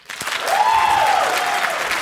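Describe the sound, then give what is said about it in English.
An audience breaks into sustained applause when asked to show who is tired of a song, dense clapping that swells quickly and holds steady, with a brief whistle gliding over the noise. “Let's hear the applause.”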